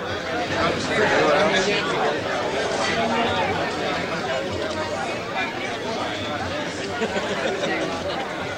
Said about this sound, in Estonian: Tore on kohtuda sõprade ja lähedastega restorani melus.